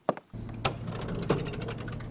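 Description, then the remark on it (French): A cash register at a cafeteria whirs with a steady mechanical hum, rapid ticking clicks and three sharp clacks spaced about half a second apart, with no one talking. “La caisse enregistreuse.”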